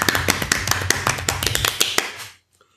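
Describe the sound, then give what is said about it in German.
A short burst of sharp, irregular claps, loud and crisp, as if a couple of people are applauding for about two seconds before it stops abruptly, with no talking. “Und da kann man auch mal klatschen.”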